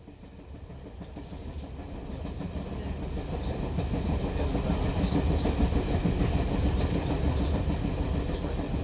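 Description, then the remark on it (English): A train rumbles steadily along the rails with a dense low roar and faint rhythmic clatter, growing slightly louder over several seconds, with no talking. “The town of Union is only a short train ride from New York City.”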